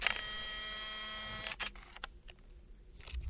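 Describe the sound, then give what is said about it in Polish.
A camera's zoom lens mechanism motor whirs steadily with a tonal, buzzing whine for about a second and a half, then stops, followed by a few faint mechanical clicks and ticks; recorded in a studio. “I właśnie przyniosłem swój aparat fotograficzny do studia i nagrywałem pracę tych mechanizmów, które robią zoom w tym aparacie.”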